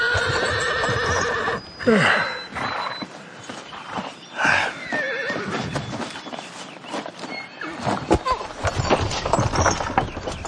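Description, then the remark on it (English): A limping horse lets out a loud whinny, followed by snorting and shuffling as its hooves clop and scrape over a hard surface in an irregular, restless rhythm while its hooves are being checked. “Close enough for us, maybe. But not close enough for the poor horse.”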